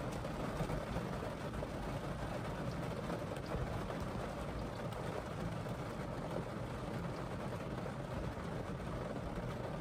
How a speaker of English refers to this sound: And it's pouring down rain. Holy shit.